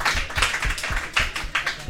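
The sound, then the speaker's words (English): An audience claps steadily for a performer who is playing, a dense patter of many overlapping hand claps that stays fairly loud throughout, with no voices on top. “Clap for Sadie, everybody.”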